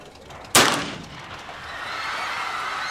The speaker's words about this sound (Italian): Quando improvvisamente uno sparo da molto vicino viene esploso contro di lui e lo colpisce al volto.